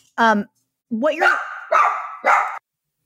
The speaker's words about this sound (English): I'm so sorry. My dogs just started barking. Sorry.